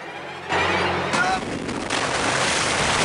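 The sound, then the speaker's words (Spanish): A large ocean wave crashes at a rocky spot with a loud roar of rushing water that builds after a brief low rumble, surges sharply, then keeps churning steadily to the end. “Una gran ola se está formando.”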